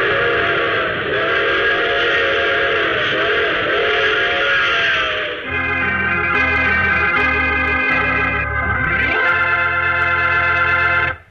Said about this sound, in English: Oh, you have to get off here. I'm sorry. But I'm sure we'll meet again. I take this same train every week at the same time.